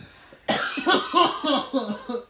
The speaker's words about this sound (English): Cough a lung up.